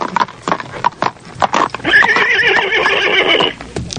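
A horse lets out a loud, wavering neigh lasting over a second, preceded by a series of sharp hoof clops on hard ground.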